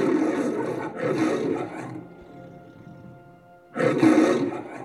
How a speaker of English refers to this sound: This is, of course, the lion from MGM Studios and a very familiar sound. The sort of sound of a lion that we learn from our childhood, you know, when we press those books that play little sounds, this is exactly what we would hear.